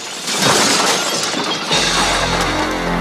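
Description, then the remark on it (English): Glazed doors shatter as a security man is punched and hurled through them: a loud, sustained crash, a bright spray of breaking glass that tails off into a low rumble and scattered tinkling shards. No voices. “so he punches him and hurls him through the glazed doors.”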